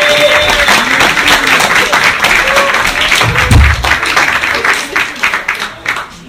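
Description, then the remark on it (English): Sustained audience applause at a comedy show for the next comedian coming up to the stage, with dense, rapid clapping that stays loud for several seconds, then begins to thin and taper toward the end, with a few whoops and crowd murmurs mixed in. “So anyway, let's get some applause going for your next comedian coming up to the stage.”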